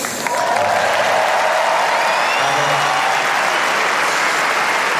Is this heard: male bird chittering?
no